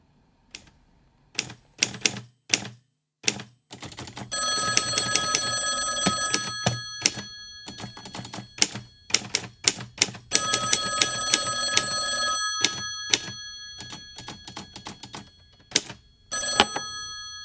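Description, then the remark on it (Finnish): A telephone bell rings in one long, bright burst lasting several seconds before a cold sales call, bracketed before and after by a series of sharp, uneven mechanical clicks and taps. Nobody speaks. “Stinde pelaa myyntipingoa, eli soittaa kylmäpuhelun”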